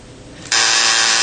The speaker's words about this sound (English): Everybody just missed the buzzer.